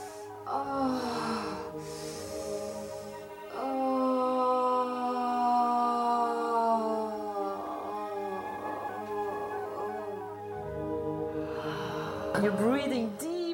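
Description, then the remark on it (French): Slow, deep breaths through the mouth, practiced during exercises as orgasmic breathing, each long exhale carrying a soft voiced sigh or moan. Several fairly loud breaths follow one another in a steady rhythm, with no talking. “Et ça, c'est la respiration que nous allons pratiquer pendant les exercices. La respiration par la bouche, la respiration orgasmique.”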